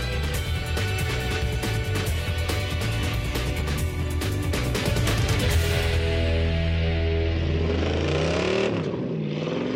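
A loud GTR1 supercar engine, designed at Galpin Autosports, revs hard with sharp throttle blips, then settles into a deep rising and falling growl as it idles and is revved again, with no talking.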